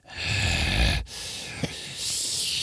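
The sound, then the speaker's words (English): A voice imitates the heavy, labored breathing of an unconscious man: a long rasping snore-like inhale, a brief pause, then a wheezy, noisy exhale with a small catch, fairly loud. “as you're staring down at his body, you can tell when somebody's sort of like unconscious, and then now his breathing gets a little bit more labored, but he is still breathing.”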